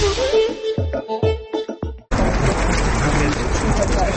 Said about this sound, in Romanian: Este ora 8 seara, ploaia curge liniștită, iar un grup de oameni stă în fața gării de trenuri din Praga.